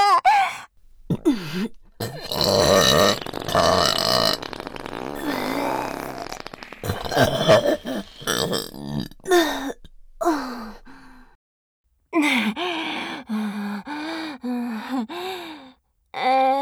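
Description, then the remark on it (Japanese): A run of loud, drawn-out, forceful burps coming one after another with brief pauses, some croaky and wavering in pitch, with no talking. “特大ザーメンゲップ、爆熱包囲と一緒にぶち抜けるの。”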